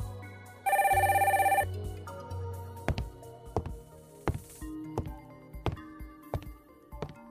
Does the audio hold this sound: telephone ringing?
yes